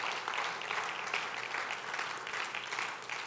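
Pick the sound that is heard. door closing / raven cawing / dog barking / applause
applause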